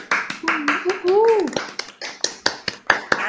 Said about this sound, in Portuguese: Deve ter sido tenso mesmo e eu acho que merece, com certeza, o prêmio. Palmas!